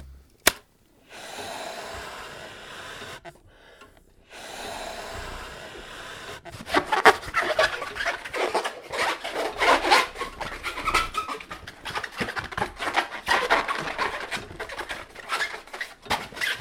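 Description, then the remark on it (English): Squeaky rubbing and stretching of a rubber balloon being twisted into a balloon giraffe, with dense, scratchy rasping bursts that grow busier and louder after a quieter start, with no talking. “And I can also make a model of any animal in that zoo out of balloons.”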